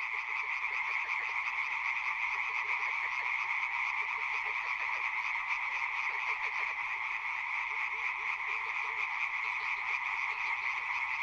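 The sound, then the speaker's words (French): A dense chorus of frogs croaks continuously in the daytime in spring, many voices overlapping into a steady, rattling, pulsing drone that stays loud and even throughout, with no talking. “Les grenouilles chantaient très fort, et en pleine journée d'ailleurs, ce qui m'a beaucoup surpris.”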